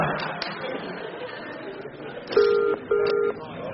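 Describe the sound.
Two clear push-button phone tones, each held for about a third of a second, as a number is dialed over a low murmur of background voices and room noise.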